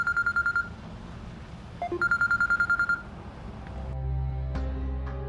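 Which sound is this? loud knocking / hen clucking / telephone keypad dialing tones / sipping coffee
telephone keypad dialing tones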